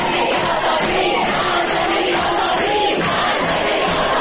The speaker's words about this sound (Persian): اعتراضاتی شبیه به این فریادها که 3 آبان سال گذشته در دانشگاه علامه طباطبایی سر داده شد.